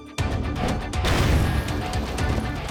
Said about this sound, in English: A sheriff deputy threw a flashbang grenade through the broken glass of the front door. A flashbang, or stun grenade, is a non-lethal explosive device used to temporarily disorientate the senses.